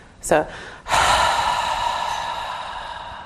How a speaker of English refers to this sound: So what we'll do here, at your own pace, we breathe in deeply, hold the air in the abdomen, deep in the abdomen, and you're going to rest your awareness on the breath in the abdomen. And then you just do a very full exhale that's audible.